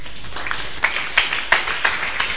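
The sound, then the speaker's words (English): A crowd applauds a woman who has just spoken, with a steady wash of clapping and a handful of sharper, louder claps standing out at irregular moments. No one speaks over it. “Let's clap for her.”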